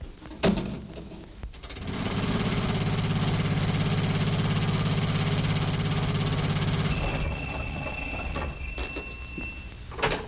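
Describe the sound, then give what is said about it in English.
An old jitney car's engine starts up after a couple of sharp clicks and runs with a steady, rumbling idle, while a high, shrill ringing tone joins in toward the end. “No, I'll take the jitney into town and get my car.”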